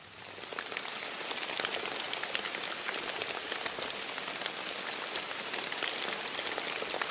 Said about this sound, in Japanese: これは秋雨です。 種類あるんですね、雨にも。